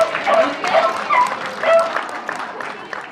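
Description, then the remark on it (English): A hound dog named Lucy barks in a few short, bursting yelps amid a crowd's clapping and background chatter, the barks loud. “This is Lucy, and she's barking for you.”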